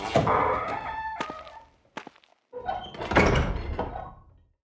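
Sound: knocking on a door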